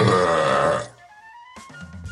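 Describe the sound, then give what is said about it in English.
A long, loud, rumbling belch measured at 110.6 decibels, powered by a mixture of cola and water, rattles on for nearly a second, followed by a brief lull and then excited murmurs and breathy reactions. “Before a hearty and robust belch registered 110.6 decibels.”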